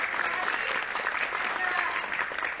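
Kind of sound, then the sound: crowd, audience round of applause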